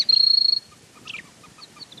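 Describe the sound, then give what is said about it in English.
Calls of a small crimson chat bird: a loud, high, rapidly pulsed trill like a digital alarm, followed by a short descending note and a few fainter, scattered chips, with no talking. “I reckon there is practically an invasion of these little crimson chats. This is what they sound like.”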